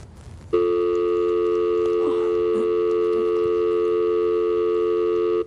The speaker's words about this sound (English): What? Dial tone. Aren't any real live people answering the phones anymore?